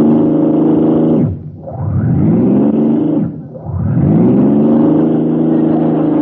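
A car engine runs loudly and steadily while driving through the Florida Keys, then twice bogs down and falters, its pitch dropping before revving back up, as if sputtering. No one speaks.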